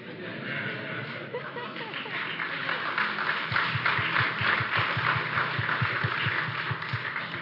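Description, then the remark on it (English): A church audience applauds after being called a weird group, a steady, dense wash of many hands clapping that swells slightly partway through and keeps going at an even, fairly loud level to the end. “What groups applaud over being called weird?”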